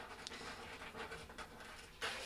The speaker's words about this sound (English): My God, all the cats are trying to come in the room, people. I'm sorry. I'm scratching at the door. Yeah, well, they're all in the room now.